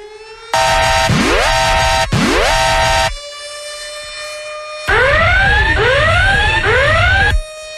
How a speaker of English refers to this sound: sound the alarm.